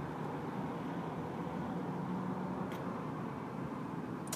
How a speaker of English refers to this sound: Oh, Chevy pickup truck, you're gutless.